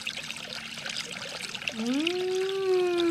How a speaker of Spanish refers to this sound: Hay viento, hay río. Hay un río así, un río que hace mucho ruido, ¿eh?